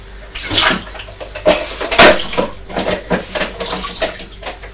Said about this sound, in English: She's mopping up the water with this cloth. And then I'm squeezing it in my hands. Squeezing it, I'm wringing it out. So that the water goes back into the bowl.